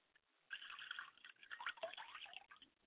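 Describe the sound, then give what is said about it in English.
Water is poured out as a libation in a ritual, pouring and splashing steadily for about two seconds, with small dripping plinks mixed in before it trickles off. No one speaks. “I pour libations to Akamare.”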